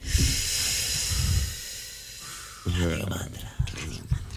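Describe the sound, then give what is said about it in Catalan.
A long, deep, hissing breath drawn in for about two seconds during a breathing exercise, then a brief quiet hold before people start talking. “Vale, vamos a respirar 4 segundos. Aguantamos 4 segundos.”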